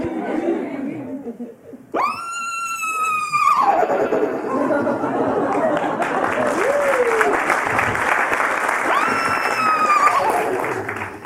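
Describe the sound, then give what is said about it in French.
A woman loudly imitates a horse whinny with a shrill, wavering call, followed by a burst of audience applause and laughter; a second, fainter whinny imitation rises over the clapping near the end. “Je hennissais en classe. Vous voulez que je vous montre ?”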